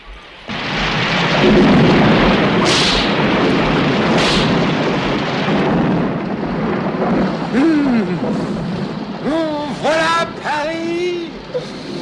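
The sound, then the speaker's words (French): A thunderstorm: a dense, loud roar of rain and deep rumbling thunder throughout, with a couple of sharp bursts early on and some brief high, wavering cries rising over the storm near the end. “Son carrosse s'ébranle sous l'orage et lui-même s'ébranle de joie.”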